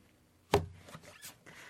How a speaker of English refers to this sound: Cool. I'm applauding quietly over here, that's why she said thank you.